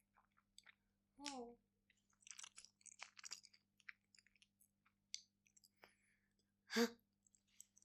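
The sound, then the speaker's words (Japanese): A person chews food right by the listener's ear, with wet, crunchy mouth sounds and small clicks, arriving in irregular bursts, with a couple of louder smacking moments standing out; recorded very near, quiet otherwise. “咀嚼音がエッチーですって。”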